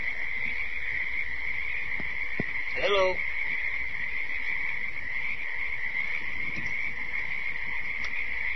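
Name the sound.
cricket chirping sound effect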